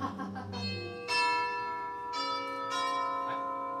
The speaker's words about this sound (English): Stop pushing it! Stop! Stop pushing it! I did. I only pushed it the one time. Is that why your finger just kept going in and out of that little... It's a deep bell. All right. It's a bit of a deep bell.